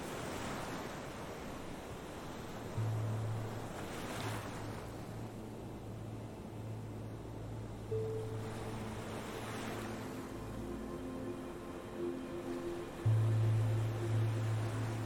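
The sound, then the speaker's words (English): Ocean waves wash ashore in a steady, rushing surf, swelling and receding slowly every few seconds, with a low, steady hum running beneath. No voices are heard. “Throw every painful memory into the ocean and let them crash against the waves.”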